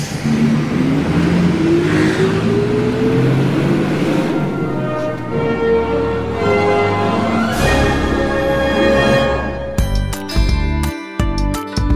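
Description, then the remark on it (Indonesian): A loud bus engine revs repeatedly, its droning pitch climbing and falling in long swells, then breaking into a choppy, pulsing rumble near the end. No one speaks. “laki-laki itu akhirnya meminta maaf kepada Erika dan penumpang lain, lalu bergegas turun dari bus sesampainya di terminal.”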